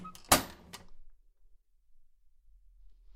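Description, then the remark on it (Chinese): A door is opened after someone calling themselves police demands it for a room check: a sharp latch click, a brief rattle and a second lighter knock, followed by near silence with only a faint low rumble. “小胖子，怎么这么晚开门呀？”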